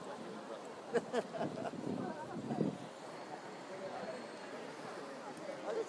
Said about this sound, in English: It's a little bit past 11. I'm standing at a bus stop in Ealing. 55 is just around the corner, according to my departures app. It's windy, it's wet, it's a bit yucky.